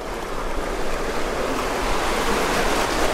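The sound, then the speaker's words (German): Small waves splash and rush steadily around a boat on a river, a continuous, fairly loud wash of water with no voices. “Jetzt wird es ein bisschen anfangen zu sein Rotan. Das sind dann kleine Wellen.”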